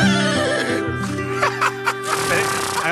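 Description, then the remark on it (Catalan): In a comic skit about Sant Jordi and the postman of Montblanc, a person imitates the postman's horse with a loud, wavering whinny that rises and falls in pitch for a few seconds, with a bit of room noise behind it. “Sol, cavall!”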